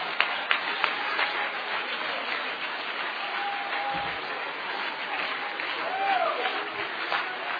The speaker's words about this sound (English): Come on, we ought to clap our hands and praise him again.